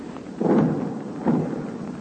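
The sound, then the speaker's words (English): Two deep, muffled booms of 60-millimeter high-explosive mortar rounds firing on a mortar mission to the left front, under illumination and in rain, the second about a second after the first, each with a rumbling tail that fades into a steady low background. “The illumination is being kept up, and every once in a while a 60-millimeter mortar mission is called out to our left front whole mountain out there.”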